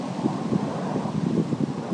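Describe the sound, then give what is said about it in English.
Steady wind blusters outdoors, a constant rough rushing with buffeting gusts that thump against the microphone, loud throughout with no voices. “Oh, it's windy.”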